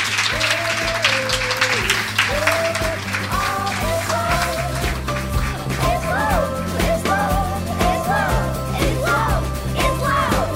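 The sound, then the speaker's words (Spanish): An audience claps steadily and loudly for the whole stretch, a dense patter of many hands, while a melodic music line with a low bass plays underneath. “Un aplauso para Manuel Javoy.”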